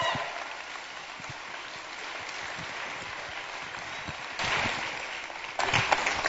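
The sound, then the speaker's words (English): A crowd applauds, giving the Lord a hand clap, with dense, steady hand clapping that swells louder toward the end, a continuous rush of many claps with no voices standing out. “Come on, give the Lord a hand clap if you believe that.”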